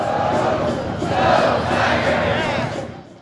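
crowd, football stadium crowd cheering

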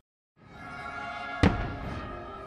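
sound effect, fireworks exploding

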